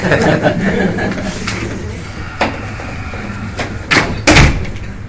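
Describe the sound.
A door swings shut with a few reverberant knocking thumps near the end, the last one loudest, over a murmur of background voices, as a person leaves a board meeting.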